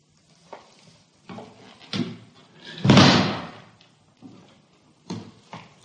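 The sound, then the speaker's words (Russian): A door is pushed shut with a loud, heavy thud partway through, surrounded by several softer knocks and clunks of handling, with no voices. “Только если вас не затруднит, закройте дверь, пожалуйста.”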